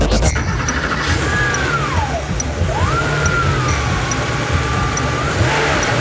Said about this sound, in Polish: Tak brzmi dźwięk silnika Porsche 911.